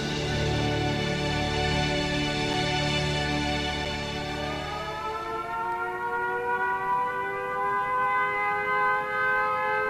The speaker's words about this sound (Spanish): Las sirenas dan la señal de alarma. Los bombarderos alemanes atacarán otra ciudad inglesa esta noche.